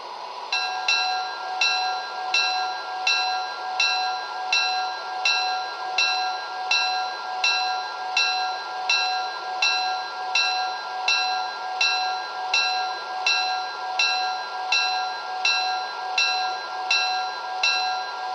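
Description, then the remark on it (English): A train bell clangs in a steady, even rhythm, over twenty strikes, above a constant engine hum at a station in Seattle, as train number 16 stands on track 1, with no one talking. “on track 1, train number 16, the Olympian.”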